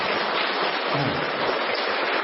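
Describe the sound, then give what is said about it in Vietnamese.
Steady applause from an audience fills the whole moment, a dense, even patter of many hands clapping at once, fairly loud, with no voices heard over it. The audience applauds to thank a man from outside the faith. “Chúng ta một tràng pháo tay thật to để cảm ơn anh ngoại đạo ạ.”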